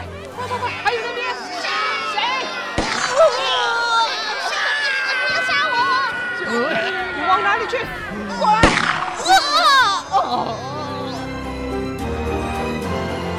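Two sharp gunshots crack out several seconds apart over a chaotic din of men shouting, yelling and groaning during a fight in a wooden cabin filled with gunpowder smoke, the struggle loud throughout.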